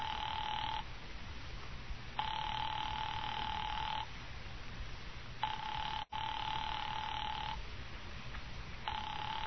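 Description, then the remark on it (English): A telephone rings over and over on an operator-placed call that the party does not answer: steady buzzing bursts of about two seconds separated by short silences, no voices, just a faint background hiss. “I'll ring them again.”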